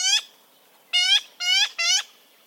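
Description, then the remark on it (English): Four harsh, nasal calls of a yellow-billed magpie, each a short burst with a rich buzzy tone: one alone, then three in quick succession. Clear, with no other sounds. “Yellow-billed magpies are clever, colorful birds, and they're only found in Central California.”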